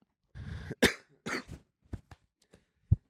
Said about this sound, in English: It's cough. What is coughing?